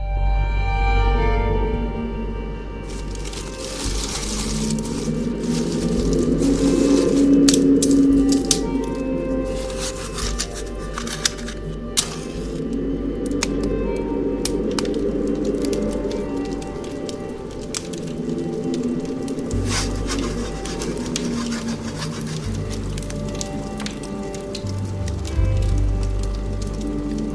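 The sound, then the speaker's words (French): A fire crackles steadily in a fireplace, with sharp irregular pops and snaps over a low continuous rumble and hiss of burning wood; no voices. “En tout cas, les deux, la chanteuse et la conteuse, aiment bien, je crois, les feux de cheminée.”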